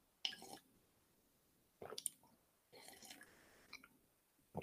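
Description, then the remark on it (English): Someone takes a quick drink of water, with a few short, wet sipping and swallowing sounds separated by brief pauses, fairly quiet, with no talking. “I'm just going to take a quick drink of water.”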